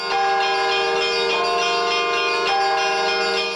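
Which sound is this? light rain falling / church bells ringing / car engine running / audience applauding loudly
church bells ringing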